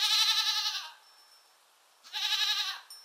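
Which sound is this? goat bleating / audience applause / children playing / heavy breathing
goat bleating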